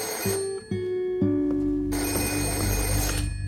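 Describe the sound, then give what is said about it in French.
A telephone rings loudly and steadily, its bright metallic bell tone continuing through the whole clip with no voices present; a mysterious call for Julio Antonio on 10 January 1929. “Le 10 janvier 1929, après avoir assisté à une réunion politique, Tina et Julio Antonio s'apprêtent à rentrer chez eux quand ce dernier reçoit un mystérieux coup de téléphone.”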